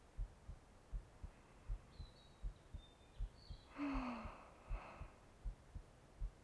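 A muffled heartbeat, heard through a person's chest, thumps in a steady double rhythm for several seconds, with a soft breathy exhale rising briefly in the middle. No one speaks.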